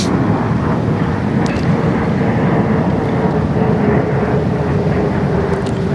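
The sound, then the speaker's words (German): An airplane drones overhead, heard outdoors, in a steady, continuous low rumble with a faint whine riding on top, fairly loud throughout and with no voices. “Und schon wieder ein Flugzeug.”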